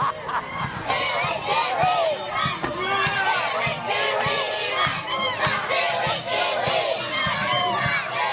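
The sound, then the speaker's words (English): A crowd of children at St. Joseph's school in the village of Konge chanting a visitor's name and shouting together in welcome, many high voices overlapping in a loud, sustained, excited clamor that keeps going without a break. “I mean, it makes your heart melt, you know, walking in there and hearing the kids chanting your name.”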